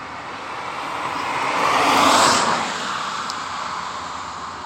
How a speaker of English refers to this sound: Here's the first car.